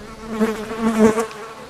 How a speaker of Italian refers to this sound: C'era una volta, e c'è ancora, un bel prato abitato da tantissimi animali, ognuno con il suo modo di comunicare. Alcuni di loro sbattono forte le ali per emettere suoni e farsi capire dagli altri.